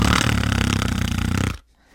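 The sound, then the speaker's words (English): A person loudly imitates Goofy's cartoon snore, producing one long, rattling, buzzy fluttering sound for about a second and a half before it cuts off into near silence. “How does the goofy snore go?”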